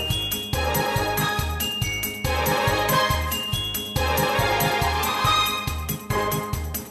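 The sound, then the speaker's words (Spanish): Instrumental keyboard music, a piece composed by a young woman on her keyboard, plays throughout, with a steady pulsing bass beat under bright, tinkling synth melodies and chords. It stays loud and continuous, with no singing or talking. “Esto que estamos oyendo lo ha compuesto ella.”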